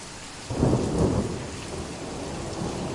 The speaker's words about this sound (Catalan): Silenci, germans. El tro és un senyal. El cel confirma que anem pel bon camí.